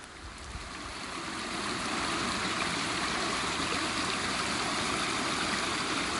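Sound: flowing stream water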